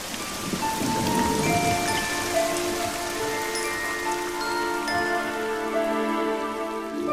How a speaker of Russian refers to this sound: Тут три тяжелых капли хлоп его по макушке, да так звонко, озорно. Совсем не то, что тогда, когда на него сердитый ливень насел.